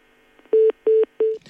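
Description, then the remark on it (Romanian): Three steady electronic telephone tones, each about a fifth of a second long, sounding in an even sequence like a phone line dialing or connecting as a phone call is taken, clear with no talking. “Hai să preluăm un telefon, după care citim un mesaj.”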